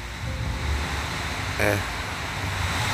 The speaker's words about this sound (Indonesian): Karena asal lo tahu ya, ada beberapa orang yang bahkan senang dengan berisiknya suara hujan, atau lebih tepatnya suara gemericik air, cuy.